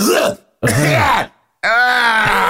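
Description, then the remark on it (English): A voice imitates two sick people coughing and whining in three loud bursts: short rough coughs, then a drawn-out, nasal whine, each separated by brief silence. “Like just the coughing and the whining from both of them.”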